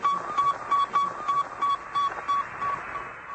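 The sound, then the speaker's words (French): A steady series of short, mid-pitched radio beeps repeating in an even rhythm, roughly three per second, over a constant bed of crackly static hiss: the signal of Sputnik, a small 83-kilogram metal ball satellite launched on 4 October 1957. “Sputnik, une petite boule métallique de 83 kilos, a décollé le 4 octobre 1957 à 2h28 et a tout de suite commencé à émettre son fameux bip-bip.”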